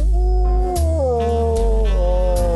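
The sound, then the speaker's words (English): A voice mimics whale song with long, loud, drawn-out moans that waver and slide downward in pitch, sustained over a deep rumbling hum, with brief breathy breaks between phrases. “I was doing the whale sounds.”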